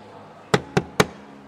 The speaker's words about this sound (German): Es klopfte. Crowley griff nach seinem Morgenmantel und warf ihn sich über den nackten Körper. Es klopfte erneut.